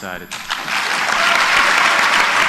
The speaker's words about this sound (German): Die Teilnehmer können es kaum glauben. Nur langsam kommt der Applaus in Gang.